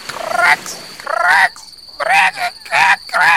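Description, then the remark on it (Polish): A toad croaks five times in quick succession, loud, each croak a throaty, warbling burst separated by brief pauses. “Tu ropucha mieszkała ze swoim synem.”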